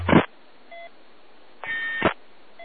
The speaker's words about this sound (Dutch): Sorry voor de piep.